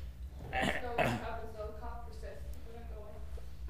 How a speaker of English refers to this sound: I'm over the cold. I'm no longer sniffling. But this cough now has been with me for a long time.